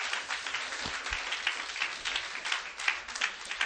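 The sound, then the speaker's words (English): An audience in a church in a Texas metroplex claps their hands together in a dense, continuous burst of applause, many overlapping sharp claps forming a steady crackling wash with no voices over it. “Come on, clap your hands.”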